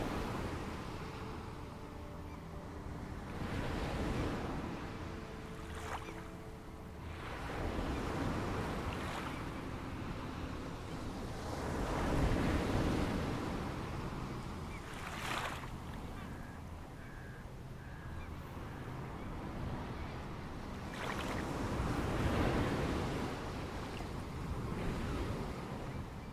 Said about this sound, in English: The ocean is gently lapping at the shore in a rocking motion, just like the beach ball.